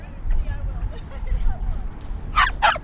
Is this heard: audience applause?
no